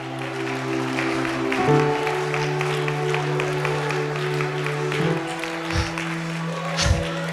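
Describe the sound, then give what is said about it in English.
A crowd claps hands unto the Lord in a steady, rhythmic beat over sustained organ-like chords that shift pitch a few times, the clapping moderately loud and continuous throughout. “Let's clap our hands unto the Lord this morning.”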